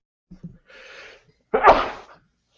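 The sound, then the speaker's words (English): A sneeze: a couple of short catching breaths and a drawn-in gasp, then one loud, explosive burst trailing off quickly. “Bless you, ….”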